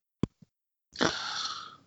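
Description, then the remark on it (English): Two short, soft coughs are followed by a longer, harsh, breathy cough or throat-clearing that trails off. The sounds are fairly quiet, with no talking. “Someone's coughing.”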